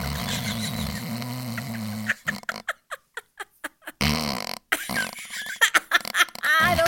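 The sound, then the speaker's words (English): A voice imitates loud snoring with a long, rattling, buzzy snort, then a run of short choppy breaths, followed by more raspy, exaggerated snorting bursts. “Did I snore?”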